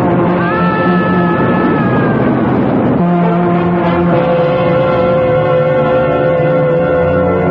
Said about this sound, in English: Ricotti, look out, the train.